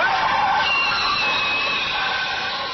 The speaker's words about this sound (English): And just as I was about to walk through the door, I got killed in a horrible motor accident.